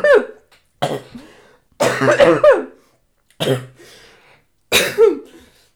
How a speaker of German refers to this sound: Ironisches oder echtes Husten? Das war nicht, ich hab mich... Ich habe mich verschluckt, Entschuldigung.